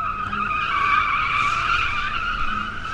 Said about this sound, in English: Every evening, young men show up on the waterfront to burn rubber for kicks.